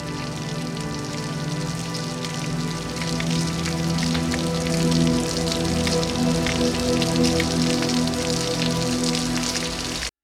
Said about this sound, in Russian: и руки, затянутые в черные перчатки, сжимали автоматы, и дождь лил на вороненную сталь, и капли дрожали и катились по стали.